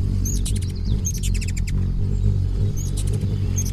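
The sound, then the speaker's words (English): A male hummingbird in an aerial courtship display, flying back and forth in a pendulum-like arc, gives buzzing wings and quick bursts of thin, high, cricket-like chirps, repeated in three or four clusters over a steady low background rumble. No one speaks. “Males greet females with a remarkable aerial performance, flying back and forth in a perfect arc, like a pendulum suspended on an invisible wire, and accompanied by buzzing wings and cricket-like chirps.”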